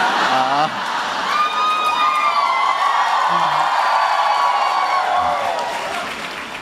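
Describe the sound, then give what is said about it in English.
A large crowd applauds loudly and steadily, with whoops, whistles and shouted cheers rising above the clapping for several seconds before it begins to ease. “gotten quite such an applause before.”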